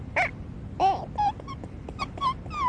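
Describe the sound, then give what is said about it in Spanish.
A voice imitates a dog barking during a game of imitating animal sounds: a quick string of about eight short, high-pitched yips and woofs, some bending up or down in pitch, over a faint steady hiss. “¿Y cómo hace el perro?”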